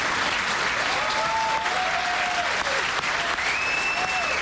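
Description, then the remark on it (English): Loud, sustained standing ovation from a large crowd assembled to see President Trump, dense and continuous clapping with scattered whistles and cheers rising above it. “Standing ovation from the crowd.”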